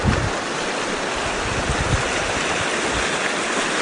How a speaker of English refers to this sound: See, the creek is running in two streams here.